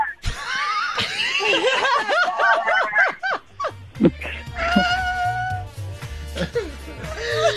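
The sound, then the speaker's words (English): Sheep bleat over and over in quick, quavering cries, loud and rising and falling in pitch. A low, steady rhythmic thumping comes in partway through beneath further wavering calls. “I can't with the sheep.”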